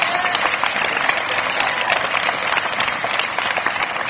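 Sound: audience hand clapping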